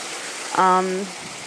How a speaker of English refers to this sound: And this is just too much darn crazy rain to inflict upon anybody. Yeah, it's really raining out here a lot.